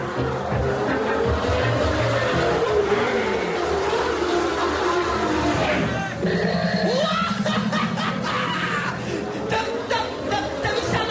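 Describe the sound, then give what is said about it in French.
A loud, dense roar of many race car engines revving hard and surging away together from the start as the red lights go out, their pitch climbing steadily as they accelerate, with no pause in the noise. “Ils vont bientôt s'éteindre et les voitures vont s'élancer.”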